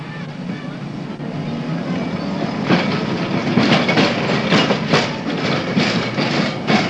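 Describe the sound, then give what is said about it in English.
A London tram, the last number 58 from Blackwall Tunnel, driven by driver Archer, pulls away with a steady low rumble, followed by a run of sharp rhythmic clanks and clatters from the wheels and track as it gathers speed, loud throughout. “And now she's off, driven by driver Archer.”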